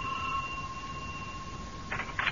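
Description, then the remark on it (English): A house doorbell, rung by visiting neighbors, rings as a steady, high electric tone, held unbroken for about two seconds, followed by a couple of brief rattling bursts. No one speaks. “This is the house. Ring the bell.”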